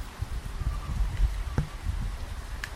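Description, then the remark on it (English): Steady rain falls with the continuous wash of a fountain blending into a broad, even hiss, low rumble underneath and a couple of brief knocks; no one speaks. “Oh no, that's a fountain, but there is rain.”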